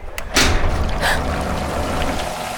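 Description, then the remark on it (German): Water gushes rapidly out of a large, round hole in a steady, loud rush that begins abruptly after a brief thud and continues without pause, with no voices. “Außerdem ein großes, rundes Loch, aus dem mit besorgniserregender Geschwindigkeit Wasser floss.”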